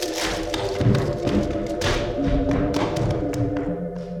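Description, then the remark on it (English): A wooden chair with a boy leaning back in it creaks and cracks in a string of sharp snaps before giving way with a heavy falling thud, loud, with a steady hum running underneath and no voices. “The boy is leaning back. The chair is starting to crack.”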